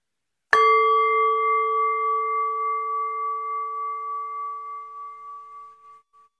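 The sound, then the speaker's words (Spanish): A single gong struck once to end an exercise, ringing with steady bright tones that slowly fade over several seconds until they vanish into silence. No voices. “Para finalizar el ejercicio, escucha el sonido del gong hasta perderse en el silencio.”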